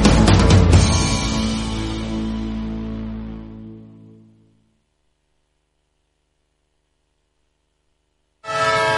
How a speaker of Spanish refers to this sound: Un tren que se va.